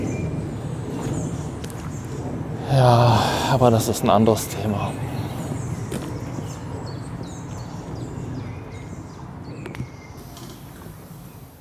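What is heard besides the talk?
birds calling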